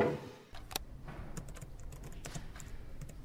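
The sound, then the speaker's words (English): Someone munches crunchy snack chips in a library, a quick irregular series of crisp crackles and crunches over quiet surroundings, with no one talking. “what the heck? Chichiria sa library? Girl naman! It was so annoying! I couldn't take the noise.”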